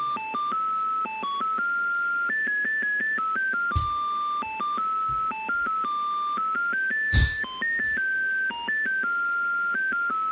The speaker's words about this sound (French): Qu'est-ce que c'est que ce répondeur ? Ah, le sale truc. Ah bah voilà, ça dure 3 heures le bip, c'est magnifique.